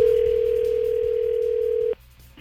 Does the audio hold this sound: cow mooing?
no